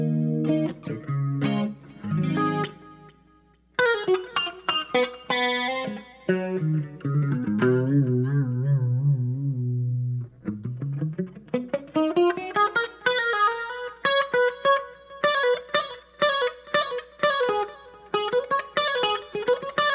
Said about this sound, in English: I like the delay there. This one I know I kind of like. It's the Terra Echo lead.